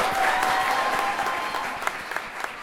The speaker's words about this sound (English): Clap it up one more time